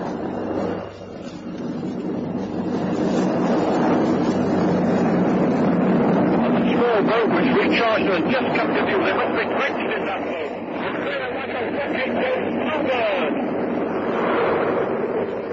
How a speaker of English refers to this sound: Another sporting event was a new water speed mark of 249 miles per hour established by Donald Campbell. See Bluebird now for spray.